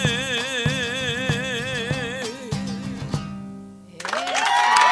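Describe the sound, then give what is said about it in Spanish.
A zamba song ends on a long, wavering sung note over rhythmic guitar strumming, then after a brief lull an audience bursts into loud applause that swells in the final second, heard on Radio Nacional Folclórica, a public radio station. “Mira, escucha todos los aplausos ahí que se reproducen.”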